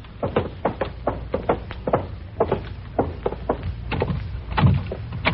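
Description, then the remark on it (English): A locked door to a room, tried from the hall, rattles as someone tries its handle, producing a rapid, uneven series of sharp knocks and clatters that continues for several seconds, with a heavier thump near the end. No voices. “Out in the hall and try the other door to that room.”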